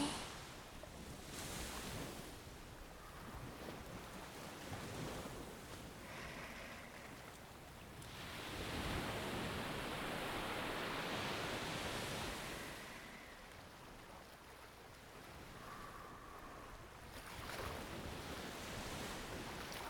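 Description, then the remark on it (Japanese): Ocean waves wash onto the shore at the water's edge on a moonlit night in steady broad surges, the largest swell rising around the middle before receding into a constant soft hiss, with no voices present. “波打ち際で力抜いて、ねんねこねんねこしましょうね。”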